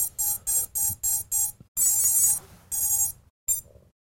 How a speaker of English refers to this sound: And every time you do this, you're just waiting for the beeping to stop before you hit the next one.